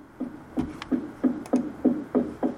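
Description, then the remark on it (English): A hammer knocks steadily somewhere in the house, about eight dull, low thuds in an even rhythm, each a little louder than the quiet background, with no voices. “I think it's a hammer within my household somewhere.”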